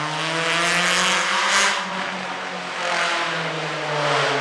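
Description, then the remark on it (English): A loud motorcycle engine revs, its throaty droning hum swelling and easing a couple of times over a constant wash of city traffic noise heard from a city garden, with no voices. “Yes, in the garden you can hear everything, trucks, airplanes, loud motorcycles,”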